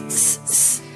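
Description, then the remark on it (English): Sausages sizzling in two bright, steady hissing bursts, each lasting about a third of a second with a short gap between, over a faint low tonal hum. “Sausages are sizzling.”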